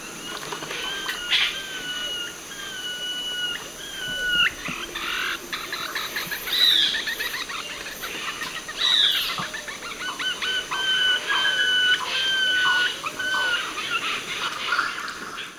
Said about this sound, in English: Eight, with yellow-rumped cacique, great Kiskadee, and others.